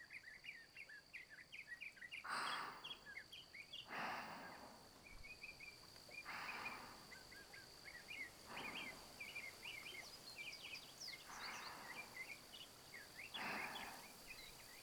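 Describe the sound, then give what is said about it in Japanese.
Tiny high-pitched chirps and twitters of seven-colored hummingbirds scatter throughout, quick, over a steady insect drone, with soft rushing swells of forest rustling and a murmuring river rising and falling every couple of seconds. “少しの間、七色ハチドリたちの鳴き声に耳を傾けながらのんびりしちゃいましょう。”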